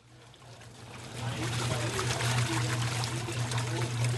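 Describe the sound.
Water pours steadily from an emergency well in the southeastern Brazilian town of Itu, where neighbors have been filling up for weeks, a continuous splashing rush that swells within the first second or so, over a low steady hum, with faint voices in the background.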